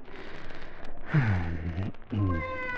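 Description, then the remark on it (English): Two drawn-out, wavering cat meows, fairly loud, the first rising and falling around the middle, the second starting shortly after, with a faint background hiss and no talking. “Now, what happened to the cat?”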